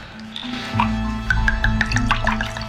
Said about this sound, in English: The image, whether real or imagined, is enough to drive him to open a new bottle and pour himself another drink.